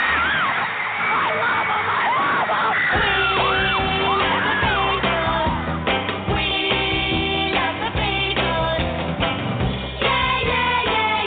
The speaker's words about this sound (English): Once upon a long ago, from Liverpool he came. He sang of life, of love, of peace, and fans all screamed his name. …!